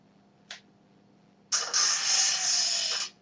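A slider phone running the Lodestone Advanced Cell Slide Helper program snaps shut with a brief click, followed by a loud, airy hissing whoosh that lasts about a second and a half before cutting off abruptly. No one speaks.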